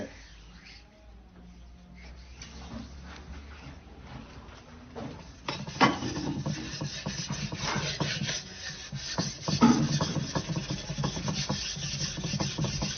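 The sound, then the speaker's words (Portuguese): A blade edge is polished on a wet stone from Minas Gerais, Brazil: after a few quiet seconds, a steady, gritty rasping of strokes begins and continues, fairly loud and rough, with no one speaking. “Antigamente usava muito para afiar ferramentas.”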